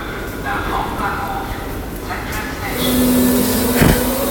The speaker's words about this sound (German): Also da steht zum Beispiel in riesigen Buchstaben Ammoniak oder Rückkopplung oder, na jetzt kann ich es nicht mehr ganz lesen, weil die U-Bahn einfährt.